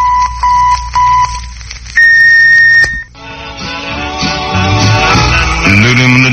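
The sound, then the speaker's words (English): A radio station's electronic time tone: three short, steady electronic beeps in a regular rhythm, followed by one longer, higher-pitched tone marking exactly one minute before 7 o'clock, accurate to within 1/20,000th of a second, loud and clean, before music abruptly begins. “The KFWB electronic time tone is accurate to within 1/20,000th of a second.”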